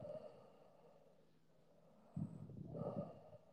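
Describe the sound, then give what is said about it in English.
A female animal snorts and snores in her sleep, fairly quiet, with a soft rasping breath that swells into a louder snort near the end. No one speaks. “Just snorty, snoring.”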